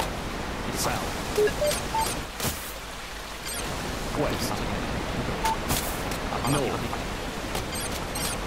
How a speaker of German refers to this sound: Oh, was denn hier los? Alter Wasserfall.